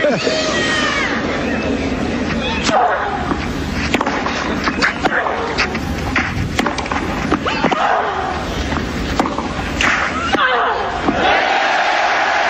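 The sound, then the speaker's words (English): A large tennis crowd roars and shouts in derision continuously at full volume during a match between Serena and Justine, a dense wall of cheering with individual yells and shrill cries cutting through now and then. “You can hear it, Simon, the energy and the charge, and we've heard cheers for double false and false before, and pretty bad moments where the crowd has not painted themselves in a good light, but this was something else.”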